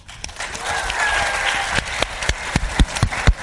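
A crowd applauds in a dense, steady wash of clapping that gradually thins, ending in a few louder, scattered individual claps.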